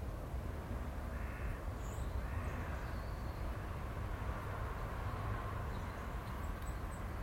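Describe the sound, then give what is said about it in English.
Blackbirds calling on a cold morning over a steady low rumble: a couple of harsh, scratchy calls early on, then a few thin, high chirps toward the end, all fairly faint against the constant background noise. “Mind you, so many blackbirds in the area, they'll all be desperate for a bit of grub in a cold morning.”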